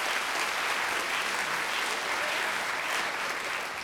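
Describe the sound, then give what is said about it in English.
An audience claps steadily for a few seconds to vote that a quoted passage was said by Alito, a dense, sustained patter of many hands at even loudness with no voices standing out. “Okay, clap if you think this was Alito.”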